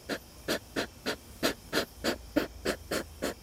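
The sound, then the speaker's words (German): An adult hedgehog in a garden snuffles and huffs in quick, steady bursts, about a dozen short breathy puffs in a row, fairly quiet, with no voices. “Sie schnaufen und grunzen und beim Fressen schmatzen sie sogar manchmal.”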